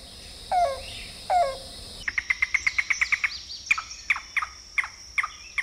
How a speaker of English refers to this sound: And then, listen, listen, the rain crow, the water bearer's favorite bird.